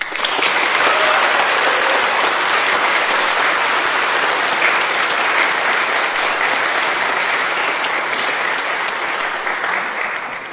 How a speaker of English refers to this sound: Thank you so much for everyone who's spoken. Could we have another round of applause for everyone who has spoken?